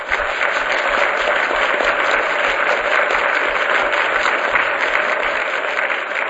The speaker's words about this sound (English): I'd ask that you give the panel another round of applause.